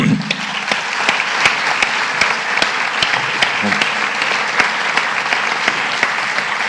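An audience applauds steadily throughout, a dense wash of many hands clapping with a few sharper individual claps standing out, loud and sustained without pause.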